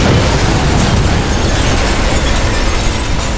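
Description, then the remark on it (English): A dynamite blast roars as a loud, dense wall of rumbling, crackling noise that holds steady for several seconds without fading, with no voices. Four sticks of dynamite tied together with string, placed on the ground under a boxcar door, blow the boxcar open. “Slaughter went to his saddlebags and took out 4 sticks of dynamite tied together with string. He walked to the boxcar and placed the dynamite on the ground underneath the door.”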